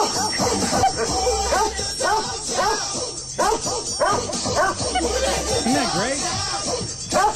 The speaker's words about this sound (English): So we got two videos from that. One is, they're both singing dogs. Yes. But one is the party singer. Okay. And another one is a little more refined. Gotcha. So let's start with the party singer here.